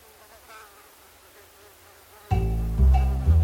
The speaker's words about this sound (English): Dr. Jesse Lazier is walking around this morning toting his little brood of mosquitoes, each buzzing around in their own glass vial. Before lunch, he takes them to Las Animas Hospital in Havana, Cuba.